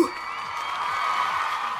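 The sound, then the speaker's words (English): A crowd cheers in a steady, dense roar of many voices that holds at a fairly even loudness for about two seconds, with no one speaking over it. “get ready for the cheering crowd.”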